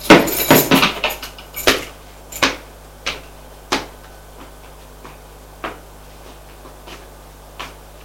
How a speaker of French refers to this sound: J'entends la porte qui s'ouvre.